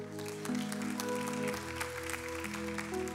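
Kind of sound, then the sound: crowd, sparse audience clapping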